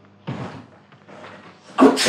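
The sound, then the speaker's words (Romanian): Someone stirs at the front entrance door: a low thud, a softer stretch of rustling and scraping, then a louder clattering burst as the door is handled. No one speaks. “Ai auzit? A strămutat cineva la ușa de la intrare.”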